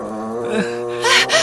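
sound effect, monster growling

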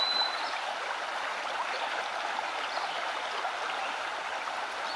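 nature, small brook water flowing

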